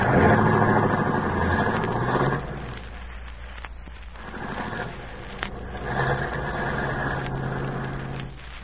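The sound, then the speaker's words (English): An expensive car's engine starts and runs with a low, steady rumble, surging louder at first, settling back, then swelling again before easing off. No one speaks. “Start her up, sis.”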